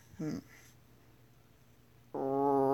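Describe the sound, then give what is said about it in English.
A voice imitates a frog with two croaks: a short, wobbly low croak, then after a pause a longer, louder, steady buzzing croak with strong harmonics. “Next is a frog. Typically, frogs go ribbit or croak, and no matter how times I many times I try to copy this, it's not gonna get right, but whatever.”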